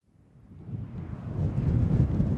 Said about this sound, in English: It's cloudy, windy, and the rain oscillates between a drizzle and a downpour. So, by Aleutian standards, pretty mild conditions.